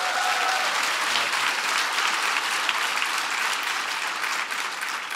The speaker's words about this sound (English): So give Strive a big round of applause.